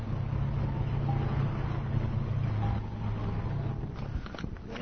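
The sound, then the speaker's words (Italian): Steady low rumble and hum inside a moving train carriage at Taormina on a train to Catania, a continuous drone with a faint engine tone, easing slightly partway through, with a few light clicks and rattles near the end. “Radio Cybernet inizia le trasmissioni per l'Hacker Meeting 99, sono le ore 8 meno 5 minuti circa e ci troviamo a Taormina sul treno che ci porterà a Catania, a Milano.”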